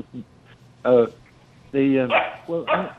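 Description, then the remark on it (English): A small Bichon Frise dog named Coco, about 17 pounds, barks in a handful of short, high-pitched yapping bursts, with brief pauses between them and a few quick barks clustered near the end. “I got a little beautiful little Bichon Frise.”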